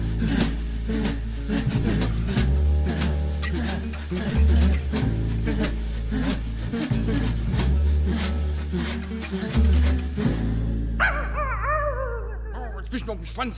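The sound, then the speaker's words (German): A dog barks and yips repeatedly over steady, loud background music with a deep sustained bass line, the barks coming in quick irregular bursts throughout. “Ja, du da, du mal der Dumme dein Hund weg. Der macht die ganze Zeit schon.”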